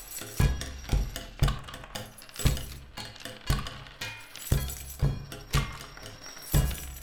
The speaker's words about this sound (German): mit dem Locher, Lilly mit dem Klammergerät, Herr Krause mit seinem Schlüsselbund und Stella und Otto mit ihrem Trommelrhythmen